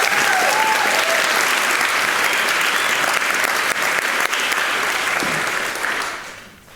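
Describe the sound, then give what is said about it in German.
Steady, dense applause from an audience for the 12 helpers ("Ameisentrolle") who moved the equipment, loud and continuous for several seconds before tapering off at the end; a few faint whistles or cheers rise briefly over the clapping. “Dafür bitte einmal Applaus für die 12 Ameisentrolle.”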